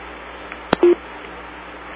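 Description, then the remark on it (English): A single short electronic keypad tone sounds on a conference call line as a participant beeps out, preceded by a sharp click, with faint line hiss and no talking. “Okay, beep out as I call your name, and that'll help.”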